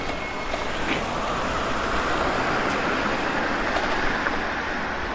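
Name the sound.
street traffic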